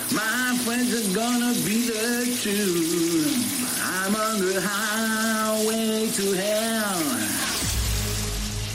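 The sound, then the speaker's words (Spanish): Shower water runs in a steady hiss throughout while a voice sings under the shower for a Rock FM radio guessing game, the spray continuing alone for a moment after the singing stops. “supongo que tienes claro quién canta bajo la ducha de Rock FM el Cagua y Tuquel.”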